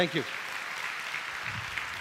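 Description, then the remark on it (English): A crowd claps steadily in a dense, even wash of applause that holds for about two seconds, with a brief bit of speech at the very start. “Give him a big hand clap.”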